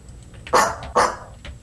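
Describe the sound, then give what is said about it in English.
A Greenland dog barks twice, two loud, sharp woofs about half a second apart, over a low steady rumble of background noise. “I got to look at the Greenland dog here.”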